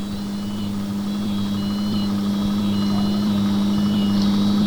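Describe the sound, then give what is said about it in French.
A car engine runs steadily throughout, a constant low hum with a faint high whine above it, even in loudness, with no voices. “Arrêtez la voiture! Arrêtez la voiture!”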